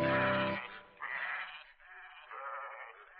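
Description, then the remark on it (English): A sheep bleats loudly, one long wavering cry followed by a couple of shorter, quavering bleats, with no talking. “So they helped Little Bo Peep find her sheep and told her just where they were going.”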